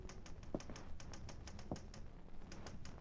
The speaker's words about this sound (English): Laurie was typing a story in a room